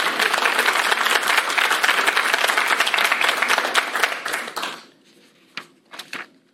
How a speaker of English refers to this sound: Now, I wouldn't mind it if somebody would clap about right now and act like you like this.